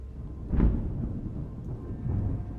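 thunder rumbling

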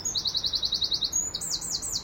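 greenfinch song

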